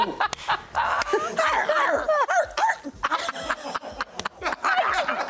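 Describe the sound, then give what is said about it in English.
A dog across the room barks in a run of short, repeated yips, mixed with people laughing and chattering throughout. “That dog just sniffing it out across the room. The dog is like, yeah!”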